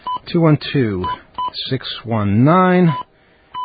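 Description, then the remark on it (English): A string of short, steady touch-tone beeps from a phone keypad as a phone number is dialed to call back a caller, punched out in quick succession while a voice talks loudly over and between them. “Whoops, dialed the wrong number again. Okay, let's get it right.”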